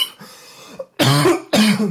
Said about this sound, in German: Lauter Wut muss ich husten.